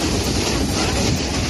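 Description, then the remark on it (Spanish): Flood waters from a heavy storm that broke over the city of Zaragoza rush through the city streets in a steady, loud, roaring wash of noise that stays constant throughout, with no voices. “En apenas 10 minutos, una fuerte tormenta descargaba sobre la ciudad de Zaragoza, provocando importantes riadas y hasta obligó a algunos ciudadanos a subirse al techo de sus coches.”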